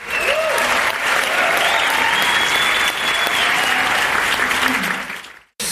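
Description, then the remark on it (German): A celebratory sound effect inserted by the editor: a crowd claps and cheers in a dense, steady roar of applause with whoops and whistles on top, lasting several seconds before cutting off abruptly. “Können wir bitte, lieber Cutter, können wir bitte so ein Wuhuhuhu Der Cutter hier, das muss gefeiert werden.”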